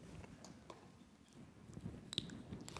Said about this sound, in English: Then I take a sip of water.